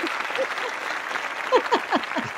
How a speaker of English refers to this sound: I wondered if we were going to get applause.